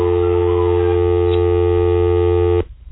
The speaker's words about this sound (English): But I expected a human being. All we got was just a bit of a dial tone there. I think that was my fault. But we accidentally hung up on him.